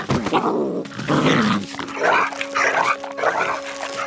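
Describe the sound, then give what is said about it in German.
A coyote tied to a stake in a village growls and snarls in several rough bursts as it tries to tear itself loose, loud and agitated, with a faint steady tone humming underneath and no one talking. “Im Dorf wurde der Kojote an einen Pfahl gebunden. Er versuchte, sich loszureißen, schaffte es aber nicht.”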